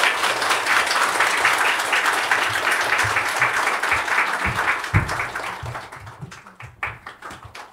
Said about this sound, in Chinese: 大家请以掌声欢迎